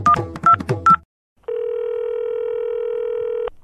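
Three quick telephone keypad tones beep in a brisk row, followed after a short pause by a steady, unbroken phone tone lasting about two seconds. No one speaks.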